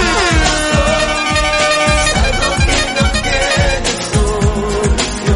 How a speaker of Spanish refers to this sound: a ver si puedes tocar la bocina, sirena y todo lo que tengas.